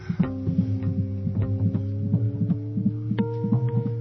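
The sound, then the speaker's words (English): A baby's heartbeat pulses in a rapid, steady rhythm of soft thumps over a constant low hum, heard alone with no talking. “This is a baby's heartbeat.”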